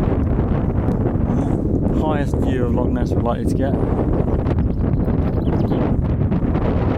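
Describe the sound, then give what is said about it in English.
Strong wind buffets the microphone in a constant, heavy roar at a railing at the top of a castle, with a person speaking briefly over the gusty rumble. “Oh, very windy.”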